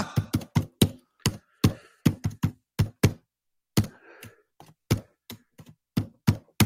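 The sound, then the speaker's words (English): Loud, heavy typing on a computer keyboard, a rapid uneven run of sharp key strikes that stops briefly partway through and then resumes, with no talking. “Is his computer fucking keyboard mic'd? Who types that loud?”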